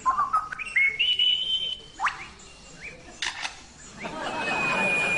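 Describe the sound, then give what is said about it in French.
A lyrebird mimics a camera: a stepped, rising electronic whine like a flash charging, then a few sharp shutter clicks and a final whirring burst, clear with no talking. “Un appareil photo.”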